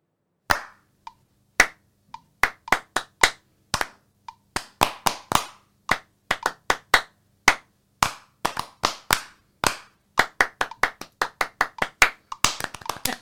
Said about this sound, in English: All right, so we did hear clapping and we heard a metronome. That's right. It's three people.